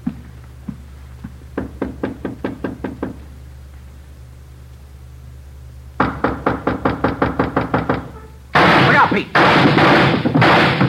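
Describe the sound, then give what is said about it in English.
Gunshots fired through a door: two rapid bursts of sharp, evenly spaced bangs separated by a short pause, followed by a loud, dense roar of noise at the end. “Right through the door. Yeah, he's got two left. Unless he's got another gun.”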